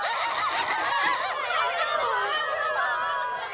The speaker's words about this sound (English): The chickens flap furiously. Some faint.